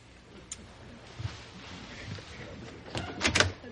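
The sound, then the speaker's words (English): A door is opened: a few faint clicks, then a louder rattling latch and brief scrape near the end. Quiet, with no one speaking. “maybe you better get that door.”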